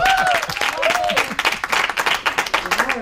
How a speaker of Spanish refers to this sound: Un aplauso para Víctor Elías.